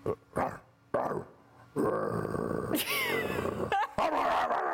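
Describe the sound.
A man imitates a dog, letting out several loud, gruff barks and growls, the first few short and spaced, then a longer rough, sustained burst with laughter-like rises.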